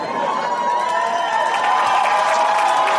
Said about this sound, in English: Already getting a round of applause.